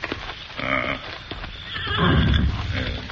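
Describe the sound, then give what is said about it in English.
A horse whinnies loudly, with a second neigh swelling later, while hooves clip-clop and shuffle underneath throughout, as the Lone Ranger and Tonto rein their horses to a halt near a shack. “Leave the horses here.”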